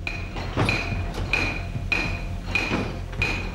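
A heavy water-powered trip hammer at the Frohnauer Hammer, a 17th-century hammer mill near Annaberg-Buchholz, pounds metal in a slow, steady rhythm, about five ringing strikes spaced roughly evenly apart, with a low mechanical rumble running underneath and no voices.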